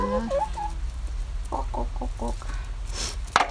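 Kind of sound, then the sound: bird, chicken clucking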